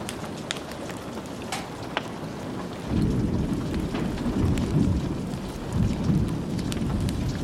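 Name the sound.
thunder rumbling with rain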